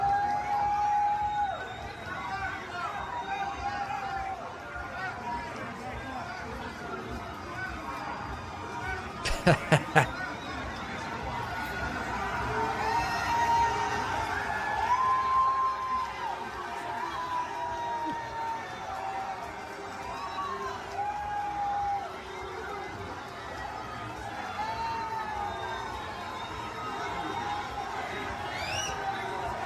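A large stadium crowd at an Iowa versus Iowa State college football game roars continuously, with sustained booing of Trump mixed with cheers and shouts for the full length, plus a brief burst of sharp claps or bangs partway through.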